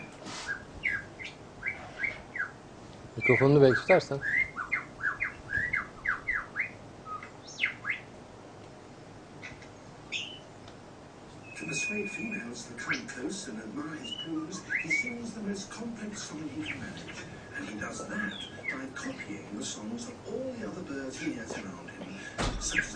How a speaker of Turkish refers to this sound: Böyle duyduğu bütün sesleri aynen çıkartabiliyor. Şimdi ilk başta normal kuş sesleriyle başlıyor ama o kuş sesleri aslında kendine ait değil. Yani başka kuşların taklitlerini yaparak o sesleri çıkartıyor.